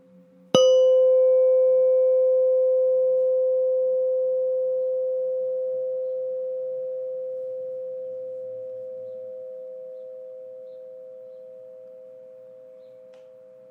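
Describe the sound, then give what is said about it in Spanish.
A single bell is struck once, giving a bright metallic strike that settles into a clear, mid-pitched sustained tone, which slowly fades over about thirteen seconds with no talking. “Ahora volverás a escuchar el sonido de una campana.”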